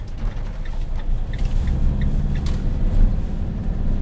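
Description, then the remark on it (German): A heavy truck's diesel engine rumbles low and steady as it pulls away with its trailer attached, leaving the zoo's operations building courtyard and heading toward Leimedal, with faint metallic creaks and rattles from the trailer over the continuous drone. “Er hängt den Anhänger an und verlässt den Zolli in Richtung Leimedal.”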